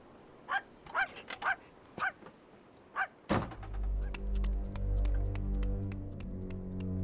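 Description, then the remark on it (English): A dog gives a quick series of short barks and whimpers; then a loud engine-like motor starts up and drones steadily, drowning out the rest. “And take this fucking dog with you.”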